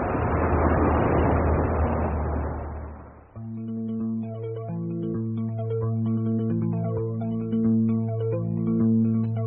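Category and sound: vehicle, bus arriving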